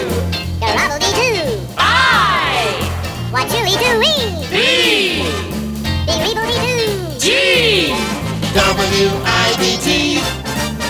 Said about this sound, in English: Hey, whenever you hear our crazy elf jingle right here on the Music and Memory Show with yours truly,